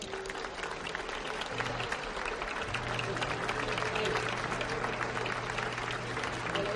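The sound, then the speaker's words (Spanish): Steady applause from an audience, given to the owner of the firm Navasola 50 years on, fills the whole stretch, a dense continuous patter of many hands clapping at even loudness, with a faint low hum underneath. “Quiero que le deis un fuerte aplauso y abrazo”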